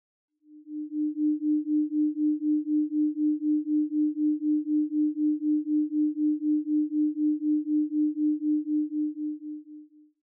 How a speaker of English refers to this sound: Now we'll shift into theta waves, associated with creativity and daydreaming.